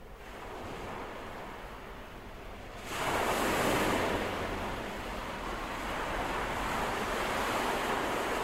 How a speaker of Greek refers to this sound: Η θάλασσα.